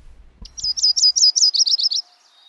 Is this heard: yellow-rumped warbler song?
yes